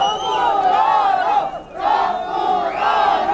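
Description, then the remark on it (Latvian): A crowd of protesters shouts and chants loudly together outside the Liepāja court building, voices rising and falling in waves, with a brief dip in the middle before the shouting surges again. “Kamēr protestētāji pauž savu attieksmi, pašā tiesas ēkā valda pilnīgs klusums un visi turpina mierīgi strādāt savos kabinetos.”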